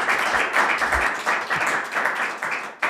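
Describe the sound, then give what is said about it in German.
A live audience applauds steadily, a dense wash of many hands clapping, loud and sustained with slight surges, no voices over it. “Danke dir und ich würde sagen, jetzt hören wir das Publikum aber nochmal.”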